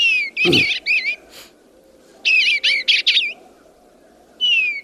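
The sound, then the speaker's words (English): Soft, warbling phrases of an eastern bluebird song come in short bursts of liquid notes, two clusters separated by a pause, clear over a faint background hum. “The song is pleasant enough.”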